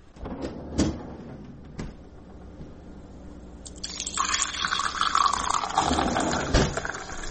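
A few sharp knocks and clinks, then someone pours a glass of water for themselves, a rushing, splashing stream that stays fairly loud for several seconds until the end. No one speaks.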